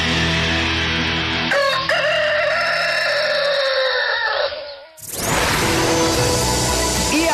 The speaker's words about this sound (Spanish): Ese gallo.